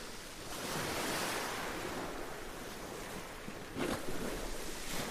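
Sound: sea waves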